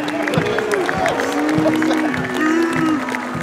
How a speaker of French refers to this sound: Alors ça, ce sont les applaudissements en face. Il n'y a pas beaucoup de gens qui applaudissent ici.